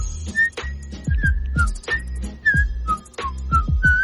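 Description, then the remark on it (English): A person whistles a wavering, tuneful melody in clear notes during the Andy Griffin Show on News Radio 890, KDXU, Southern Utah, carried over a rhythmic musical backing with steady thumping bass beats. “He's doing a little whistling.”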